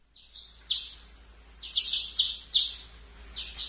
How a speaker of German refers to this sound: Aber als sie mit dem Putzen fertig war und herauskam, um nach den Körnern zu sehen, pickten Dutzende von Spatzen nach dem Reis.